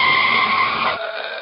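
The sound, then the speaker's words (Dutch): A car's tires squeal in a loud, sustained skid as it brakes hard, the harsh screech cutting off abruptly near the end as the vehicle halts, leaving a thinner fading squeal. “Remmen, trappers. Remmen.”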